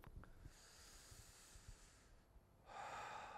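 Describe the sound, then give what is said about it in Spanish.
A deep, drawn-out breath, like drawing hard on a cigarette: a broad airy hiss that swells louder toward the end, with no talking. “Una respiración profunda.”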